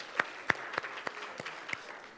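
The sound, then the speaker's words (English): A brief round of applause: sparse, irregular handclaps, with a few sharper claps standing out over a soft, continuous patter. No one speaks. “Yeah, go ahead and give them a round of applause.”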